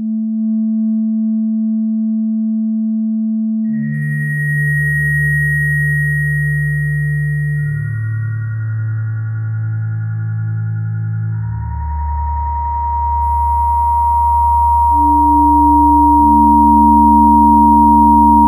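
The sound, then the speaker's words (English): A loud synthesizer plays a slow series of sustained notes alone, a fairly fast-decaying envelope controlling LFO1 level (about 70), morph (about 50) and filter cutoff (about 30), so its tone swells and shifts as the filter and wobbling modulation reshape the timbre, with a deep buzzy low end. “And I'm using it to control the LFO1 level, got that set at about 70, morph, got that set at about 50, and cut set at about 30.”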